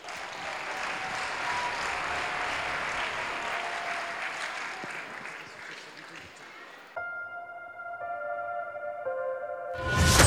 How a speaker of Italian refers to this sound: Ci presentano uno show latin dal titolo The Warriors, tratto da tema molto attuale, la guerra, di cui ultimamente è stata coinvolta l'Ucraina. Un applauso.